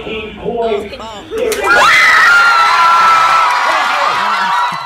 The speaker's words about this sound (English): It's a bunch of 17-year-old girls screaming.